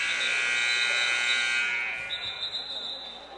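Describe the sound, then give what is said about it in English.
A loud, sustained basketball shot clock buzzer blares steadily for about two seconds as the shot clock expires after a missed three-point shot, a flat harsh electronic tone, then gives way to a thinner high whine and scattered crowd noise with a few bounces. “Shot clock expires.”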